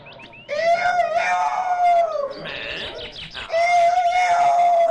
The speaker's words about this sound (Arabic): استمع من جديد، فإذا به صوت ديك نشيطا وصاحب صوت عال جدا أعلى من صوته عندما كان يتفاخر بنفسه. نظر جيدا، فإذا بصاحبه الديك المريض قد شفي، وقد عاد يصيح بصوت عال في الغابة.